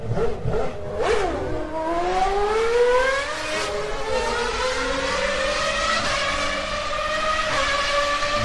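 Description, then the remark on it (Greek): A race car roars off the start line, accelerating from 0 to 100 in 2 seconds, its loud, high-pitched engine whine climbing steadily in pitch, continuous for several seconds with no voices. “Der Start. 0 auf 100 in 2 Sekunden.”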